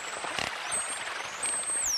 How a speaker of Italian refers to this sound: Questa è una balena false killer.